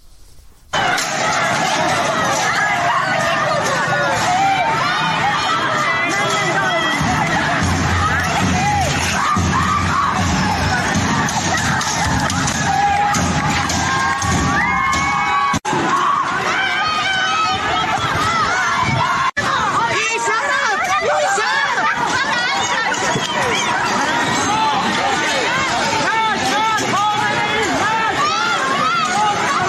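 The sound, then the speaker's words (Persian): A protest crowd in Ardabil, Iran, chants slogans, a loud, continuous mass of overlapping voices with scattered yells and shouts rising over it for the whole half minute. “صدای از اعتراضات امروز در اردبیل رو میشنیدی”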